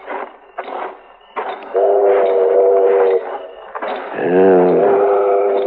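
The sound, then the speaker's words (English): A train pulls into a station: a few heavy chuffing bursts give way to long, wailing whistle blasts, the last one sagging lower in pitch, loud and steady over a rumbling background. “The train's pulling in.”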